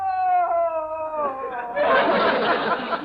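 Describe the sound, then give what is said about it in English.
A woman lets out a long, loud wail that slides downward in pitch like a coyote's howl, then breaks into a rough, noisy burst of sound. “Really? I thought it was a coyote.”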